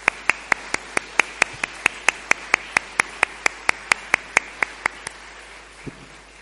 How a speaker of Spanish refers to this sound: Terminamos la exposición. Le damos un aplauso porque yo creo que nos ha gustado a todos.